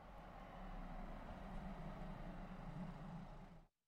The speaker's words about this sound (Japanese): ん？あれ、あの車、ルカの方に向かってくるけど、タクシーじゃないよね。